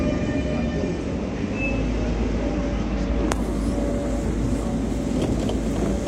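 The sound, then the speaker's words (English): A tram rumbles steadily along its rails beside a river toward the town center, with a low continuous roar, a sharp metallic click partway through, and faint squeals and clatter over the top. “I'll board the steps of a tram. I'll ride along the river to the center.”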